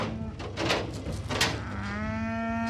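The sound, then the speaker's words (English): Several cattle moo loudly at a feedlot beside a freeway, one long drawn-out low call following shorter bellows, over a steady background of herd noise and rustling. “John says there's plenty of room for the cattle here”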